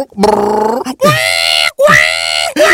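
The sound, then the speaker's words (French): A voice imitates a stomach growling from hunger during fasting with three drawn-out, wavering groans, loud and strained, each rising and bending in pitch, separated by brief gaps. “Mais oui, mais quand vous faites les jeûnes, justement, ton ventre te rappelle d'arrêter, parce que ton ventre fait...”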